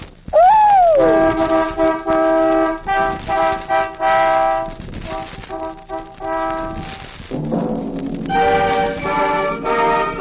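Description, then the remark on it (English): Several Kaiser Fraser car horns honk in a bright, harmonized sequence that forms a short melody, sustained toots rising and falling in a rhythmic pattern, loud with no talking. “Well, Nicky, darling, where's your musical appreciation? I think it's very pretty. Listen. Kaiser Fraser cars.”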